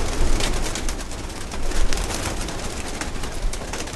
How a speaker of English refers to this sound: These aren't just normal run-of-the-mill pigeons that Joe Schnook found in the street